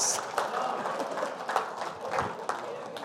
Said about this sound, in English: Shall we clap for Jesus? Everybody, come on.